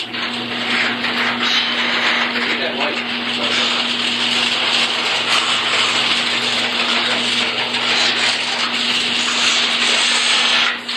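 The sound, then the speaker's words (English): A garage door opens with a steady mechanical drone, a low motor hum under a broad grinding rush. It holds constant and fairly loud for about eleven seconds, with no voices. “And the sounds of a garage door opening.”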